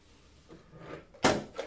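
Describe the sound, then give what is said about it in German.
A phone drops onto the floor with a sharp, loud bang, followed a moment later by a smaller knock as it settles, after some soft rustling handling noise. “Das hat aber geknallt. Ist dein Telefon runtergefallen?”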